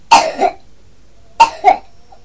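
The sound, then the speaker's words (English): A child coughs twice, each a short, harsh double burst, separated by about a second of quiet. The coughs are fairly loud, with no talking. “Yeah, I'm coughing again.”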